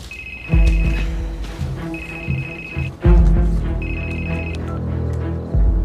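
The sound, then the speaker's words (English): A telephone rings three times in steady, evenly spaced bursts, each a bright trilling tone over a low, sustained rumble in the background. Nobody speaks. “You gonna answer your phone?”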